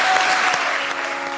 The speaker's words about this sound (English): Let's give a round of applause for these guys.